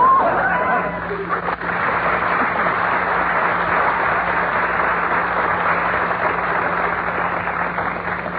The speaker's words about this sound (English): It's crowded in here, ain't it?